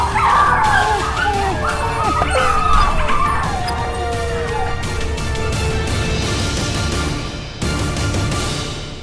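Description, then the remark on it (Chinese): A chaotic fight of wolves, barking, yelping and snarling over each other, loud and close, with frantic overlapping cries early on and scuffling, crashing noise continuing throughout. “汪汪汪，快逃啊，快逃啊，敌人杀来了。”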